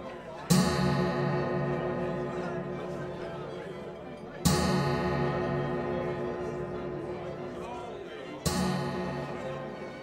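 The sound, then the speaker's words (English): A clock strikes midnight in deep, resonant bell strokes, three heavy strikes spaced about four seconds apart, each ringing out and slowly fading before the next, loud. “The clock strikes midnight. All stop in silence, listening to it.”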